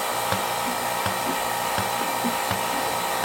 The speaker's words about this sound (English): This is going a little fast. It does that when it's trying to make up pressure, but it's actually got enough pressure. Sorry, vacuum. I was calling it pressure. When your pulsator pulses slower, your vacuum is too high.